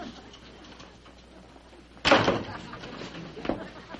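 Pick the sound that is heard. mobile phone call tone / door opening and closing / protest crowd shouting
door opening and closing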